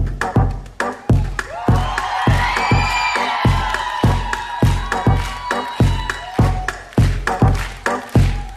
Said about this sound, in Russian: Давайте поговорим про что-то прекрасное, про потрясающее, про аплодисменты, вот это вот, про успех. Вот, давайте про успех поговорим.